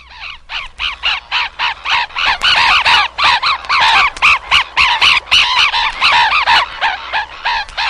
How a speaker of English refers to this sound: Black neck stilt.